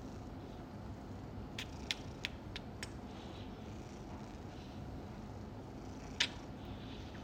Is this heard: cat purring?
yes